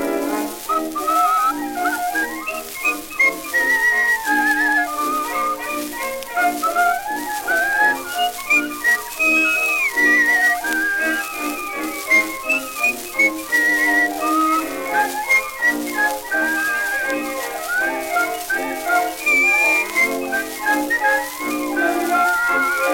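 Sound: whistled melody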